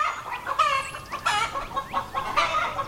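Chickens cluck and squawk in quick, irregular bursts, with a rooster's call mixed in among them; no one speaks.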